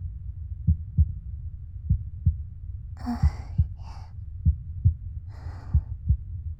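heartbeat heard through chest

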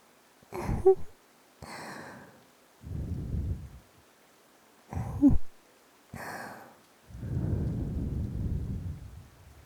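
cool breath blown softly

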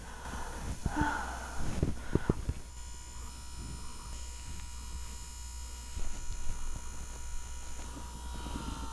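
close-up breathing

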